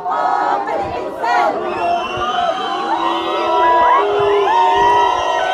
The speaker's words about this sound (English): It's the chants of the unemployed, who protest daily outside Morocco's parliament building. There are also the whistles of the riot police who try, sometimes violently, to break up the demonstrations.